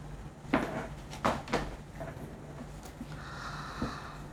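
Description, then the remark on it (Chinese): A door being opened to a visitor: a few sharp clunks and clicks of the handle and latch spaced over a couple of seconds, then a softer knock near the end, with a faint steady hum underneath. “啊，你别动，我去开门。”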